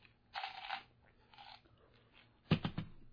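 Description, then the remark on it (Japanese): Crunchy chewing of gum in the mouth in three short bursts, the last one loudest, as the gum is bitten and worked, with quiet pauses between and no talking. “うん、ガムガムを口に入れたけどな。”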